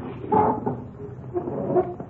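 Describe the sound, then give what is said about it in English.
A couple of chairs being pulled up across a hard kitchen floor, two short bursts of scraping with a faint squeal of legs, moderately loud, with no one talking. “Pull up a couple of chairs.”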